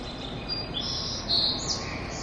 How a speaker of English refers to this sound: We were just hearing some bird noises. We should actually emphasize that there are no actual birds inside the convention center. This is all just part of the sound system.